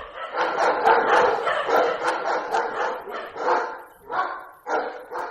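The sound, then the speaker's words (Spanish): Several dogs bark in a rapid, overlapping flurry, loud, with a few separate sharp barks trailing off toward the end. “Pues no sé cómo han entrado los perros, sinceramente.”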